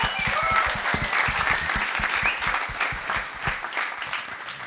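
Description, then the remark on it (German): An audience claps steadily, a dense patter of many hands at moderate loudness with sharp individual claps audible throughout, thinning slightly toward the end. No voices stand out. “Ihr habt, also danke, Applaus an euch, ihr habt geliefert.”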